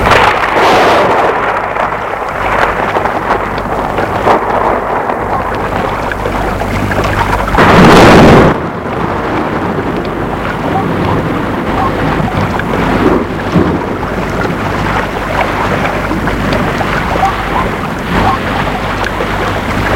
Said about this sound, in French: Le père dit, ce n'est qu'une averse, ça ne va pas durer. L'orage est de plus en plus fort. Il fait sombre.